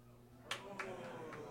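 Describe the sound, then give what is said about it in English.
A man gives four sharp claps, the first two loudest and the rest softer, arriving at an uneven pace over a steady low hum. “Keep clapping, sir.”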